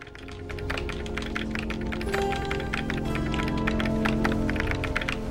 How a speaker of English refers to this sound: A young woman with long blonde hair types intently.